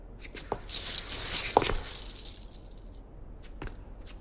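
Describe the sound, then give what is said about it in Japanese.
A locked metal prison cell door being tried, with a few sharp clanks and a jingling, ringing rattle that fades out, followed by a couple of softer knocks. No one speaks. “ドアはやっぱり鍵がかかってるか。”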